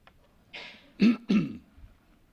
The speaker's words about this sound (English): You read my mind. Or you just heard my cough.